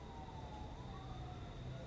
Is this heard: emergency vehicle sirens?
yes